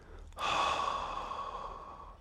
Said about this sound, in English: I want you to carry on breathing in. Hold and breathe all the way out.